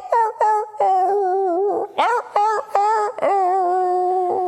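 A rooster named Ludwig crows a Beethoven tune: a string of loud, sustained, warbling notes that step up and down in pitch, grouped into several phrases with short breaks between them, with no other sounds.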